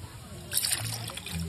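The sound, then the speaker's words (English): A short splash of pear eau de vie poured into a glass holding a cocktail of whiskey, lemon juice, apple juice and ginger simple syrup, lasting under a second with a light trickling edge, over a low background hum and faint murmur. “Why don't we get and then, this right here and then pour just a little, so we can hear it. A little dash of pear eau de vie.”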